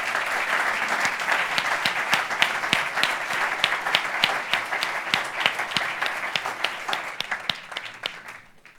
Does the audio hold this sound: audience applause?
yes